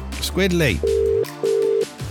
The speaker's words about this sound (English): pick the fucking phone up.